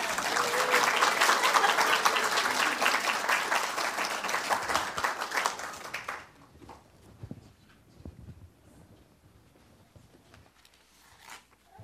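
An audience claps together in a dense, sustained burst of applause for about six seconds, then it stops abruptly, leaving quiet with scattered faint shuffles and small noises.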